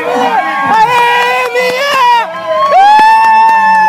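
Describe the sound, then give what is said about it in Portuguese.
A loud outdoor crowd cheers and shouts steadily at a children's running race, with high children's voices calling out over a dense babble of many people, the noise sustained throughout with brief swells. “Mesmo assim, a torcida, de forma geral, foi grande.”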